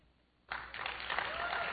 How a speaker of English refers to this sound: You can applaud. That's right. Okay.